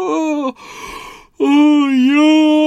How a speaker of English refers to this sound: Oh, yawn. I hope I'm not making you yawn.